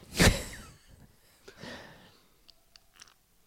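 Close, audible breathing: a sharp, loud snort-like exhale at the start, then a softer breath a moment later, with faint clicks and mouth noises in between. No one speaks.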